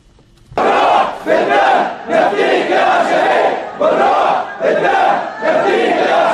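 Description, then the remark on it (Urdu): A crowd of Bahraini protesters chants slogans in loud unison in support of Ayatollah Isa Qassim and against the military siege of Diraz, the shouts coming in rhythmic bursts with brief dips between phrases, sustained throughout after a quiet start. “بحرینی مظاہرین نے اپنے نعروں کے ذریعے استقامت جاری رکھنے پر تاکید کی.”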